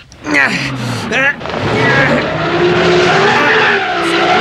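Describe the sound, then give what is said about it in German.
A car engine revs hard in a few rising bursts, then roars steadily as the wheels, stuck in mud, spin and churn, loud and continuing without letup, in a tropical rainforest. “Die Räder stecken im Schlamm fest.”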